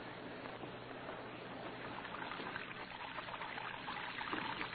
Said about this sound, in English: Red Beaver lay sprawled in his bunk, watching water pouring from his wash basin to the cell floor.